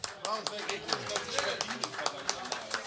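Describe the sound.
Scattered applause from a small group, a steady patter of sharp hand claps, with voices talking and laughing over it.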